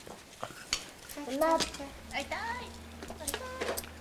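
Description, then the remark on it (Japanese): Several light clinks and knocks of a small frying pan and pot being handled, scattered irregularly while people talk over them, as fried eggs are being made. “フライパンですよ、卵焼き、目玉焼きは、うん、アンパンマンが応援してるよ、 うん、 でもお鍋で、うん、”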